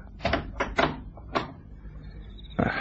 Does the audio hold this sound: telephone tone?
no